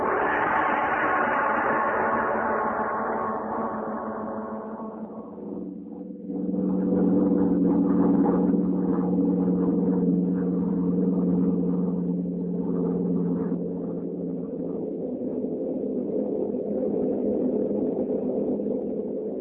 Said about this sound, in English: The scene is a bombing plane flying over England.